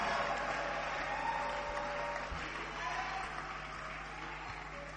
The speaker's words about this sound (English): Oh, keep clapping, keep clapping, keep clapping.